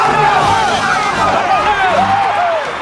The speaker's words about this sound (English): As the Cubs run out onto the diamond, the fans jump to their feet, clapping and cheering.